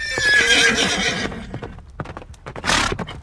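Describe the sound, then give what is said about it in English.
A stranger's nag (horse) lets out a loud, shrill whinny lasting about a second, followed by a steady series of sharp hoof clip-clops and a brief breathy snort partway through. “The backbone of the stranger's nag was just about to split me in two when he talked up.”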